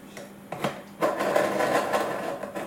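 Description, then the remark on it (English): A scissors blade, its flat edge held at an angle, scrapes steadily across a sharpener in one long, gritty drag, preceded by a couple of light metallic clicks, with no one speaking. “You have to find the flat edge on the scissors on this side. And then you put that on at an angle like so.”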